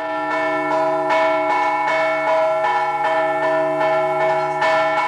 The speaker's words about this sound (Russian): В 1812 году колокола зазвонили по всей России.